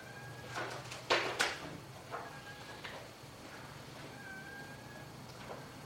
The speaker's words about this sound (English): Somebody help that cat. Yes. Stuck somewhere. She's sleeping. She's snoring. Oh, is that what that is? Sound like a cat.